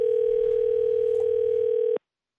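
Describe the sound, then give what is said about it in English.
A single steady telephone ringing tone while calling a company, a flat electronic hum held for about two seconds before cutting off abruptly, clear with no voices. “So we're going to call and see if she's actually gotten, you know, friendlier and warmer.”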